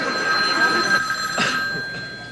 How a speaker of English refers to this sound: There's the phone.